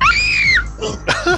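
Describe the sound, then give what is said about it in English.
A woman, a soprano, lets out a loud, piercing high-pitched scream on request, lasting about half a second, followed by a couple of shorter, breathy vocal yelps. “That was like the neighbors call 911 kind of scream.”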